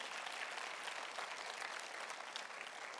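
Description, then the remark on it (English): A crowd claps steadily for a few seconds, a dense, even wash of many hands with no pauses or voices standing out. “It deserves a, y'all are quiet, deserve a round of applause.”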